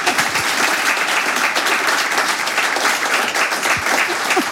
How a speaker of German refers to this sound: Und dazu bitte ich Sie um tosenden Applaus.